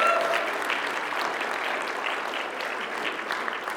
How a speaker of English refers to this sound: Can we have a round of applause here for missions?